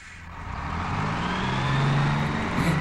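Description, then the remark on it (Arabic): A bus carrying schoolchildren on a tour of the capital's sights hums steadily as it drives, with a low rumble and rising harmonic tones as it gathers speed, continuous with no voices. “إنه منشغل بقيادة الباص ولا يراني.”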